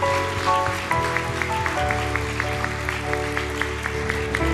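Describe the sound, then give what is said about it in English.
A large crowd at a church service claps hands steadily and enthusiastically in praise of the Lord, a dense wash of applause blended with sustained organ or keyboard chords playing throughout, fairly loud. “Let's give the Lord another hand clap of praise today.”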